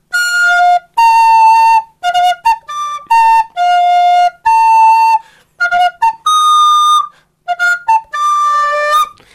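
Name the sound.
flute being played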